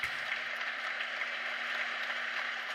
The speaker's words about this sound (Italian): Qui faccio ascoltare gli applausi.